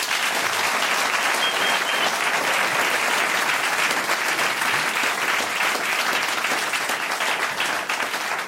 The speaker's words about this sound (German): Und für das sind wir heute im Diogenes-Theater, Zaltstätten im St. Gallen Rital. Und ein Applaus meine beiden Gäste.